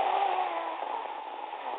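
A steady, dense rushing roar of wind buffeting through open car windows, with a faint engine drone beneath it and no voices, holding an even loudness throughout.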